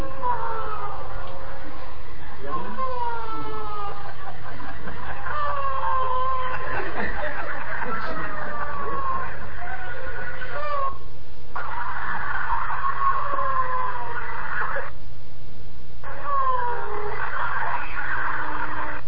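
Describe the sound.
Many people lying on the floor howl and wail together in long, wavering cries whose pitch glides up and down, overlapping continuously at a loud, steady level with only brief dips.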